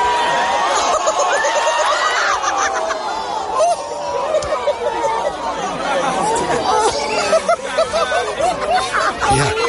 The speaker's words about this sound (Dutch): Want in volle vaart naar beneden rennen gaat eigenlijk altijd fout. Dat hoor je goed terug in dit fragment. Het juichen, dat gaat eigenlijk snel over in pure angst. Luister maar.